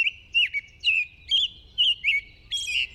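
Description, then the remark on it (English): An American robin sings a run of clear, warbling phrases, each a short rising-and-falling burst of whistled notes separated by brief pauses, with a faint low rumble underneath. “American robins begin piping up in late winter and then sing all through spring and summer, sometimes well into fall, too.”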